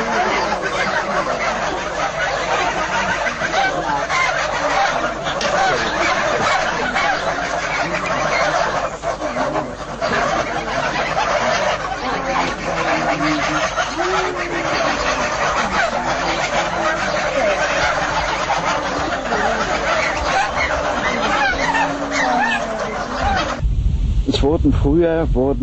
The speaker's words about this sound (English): Except for the wing feathers, all feathers and down are torn out. The workers seem deaf to the screams of pain of the geese. Their work has become just a routine.